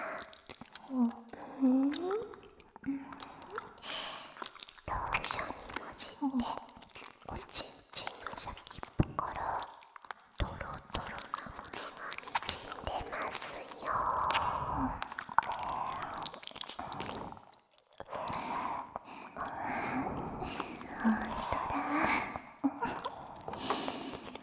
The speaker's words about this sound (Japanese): やっぱり、お耳を舐められると、余計気持ちよくなっちゃったんですね。